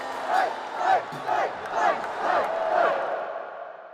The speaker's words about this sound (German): Es ist ein Auftritt wie der eines heimgekehrten Helden. Unter dem Jubel seiner Anhänger bahnt sich Donald Trump den Weg in seine Familienloge auf dem Parteitag der Republikaner.